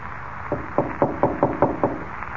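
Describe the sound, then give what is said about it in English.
A series of six firm knocks on a wooden door in a quick, steady rhythm, clear, with no voices over them. “He knocked at the door and then skipped off down the corridor.”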